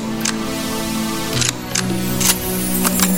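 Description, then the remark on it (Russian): A rifle bolt is worked and closed after cartridges are loaded into the magazine, giving several sharp metallic clicks and clacks, spaced irregularly, over a steady tonal music bed. “Закрой затвор.”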